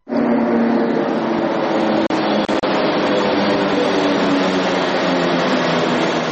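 A Beovoz suburban commuter train of Belgrade, Serbia pulls in to a platform in the brightly lit cutting of the future Beograd Centar railway station, in a steady, loud roar of engine and wheel noise with no voices. Two brief breaks interrupt the sound partway through.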